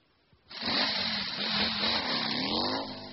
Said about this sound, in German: Ein Motorrad.